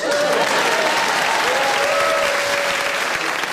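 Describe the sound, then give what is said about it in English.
A live audience applauds the winners of a game steadily throughout, a dense, continuous wash of applause that stays loud and even from start to finish, with faint whistles or cheers rising through it. “So another round of applause for our winners.”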